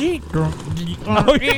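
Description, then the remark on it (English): A man's voice imitates a sputtering rototiller engine, a short burst of buzzing, revving vocal noise with rising and falling pitch, fairly loud. “You know that sound of it that goes,”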